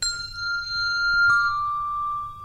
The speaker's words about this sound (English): Then to damp the bell, you're going to bring it back just below your clavicle bone by your shoulder, mm-hmm. and just touch the lip of the bell to your shoulder.